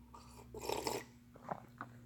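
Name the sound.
sipping coffee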